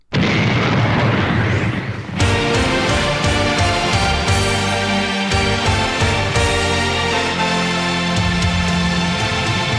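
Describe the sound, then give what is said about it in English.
A loud, booming explosion opens and rumbles for about two seconds, then a dense, energetic wrestling entrance theme bursts in and plays at full volume with no talking; this version of the theme has the explosion at the beginning and a longer intro. “Version 3, which has the explosion at the beginning and the longer intro.”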